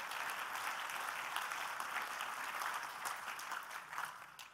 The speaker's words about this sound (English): We have amazing people from Vampire Survivors here in the room, so please give them a big clap because they won it, and I genuinely think they deserve it.